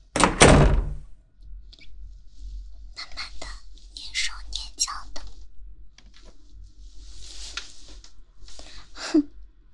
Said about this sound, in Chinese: 敲个门。不行，不能敲门。敲门的话，就没有惊喜了。我要给他一个惊喜。直接开门进去。